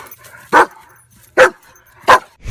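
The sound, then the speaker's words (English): A pet dog named Rex barks three times in a steady rhythm, each sharp bark loud, with a fourth just starting at the end and quiet between them. “Say hi to everybody, Rex. Come on, dude, like you mean it.”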